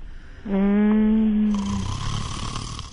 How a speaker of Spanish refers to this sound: Mire cómo ronca.